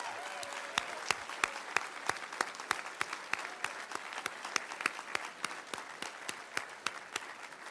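An audience breaks into sustained applause for the family of Senator Bayh, many hands clapping in a dense, steady wash with sharp individual claps standing out throughout, fairly loud and without any talking.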